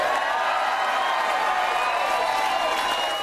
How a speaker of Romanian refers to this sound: Pe măsură ce ne apropiam de miezul nopții de sâmbătă spre duminică, suporterii l-au primit cu aplauze pe liderul opoziției Bill Shorten, la sediul campaniei sale din Melbourne.